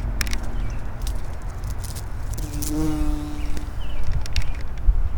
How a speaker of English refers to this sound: Okay, this is weird. I can hear a bee. Oh, I see him. All right. I'm gonna put the microphone right up to him. He's on a flower.